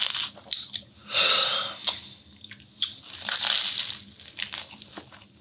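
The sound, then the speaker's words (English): Loud, dry crunching as someone bites into a crisp Bistro Crostini toasted bread and chews, with two big bursts of crackly crunch and smaller brittle clicks between them, no talking. “Crostini. Bistro Crostini.”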